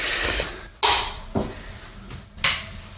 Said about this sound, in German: Moment, das ist ein Geräusch. Das ist die Kaffeemaschine, soll ich die ausmachen? Ja.